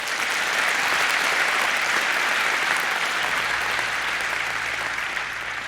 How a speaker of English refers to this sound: So give them a round of applause as well. Thank you.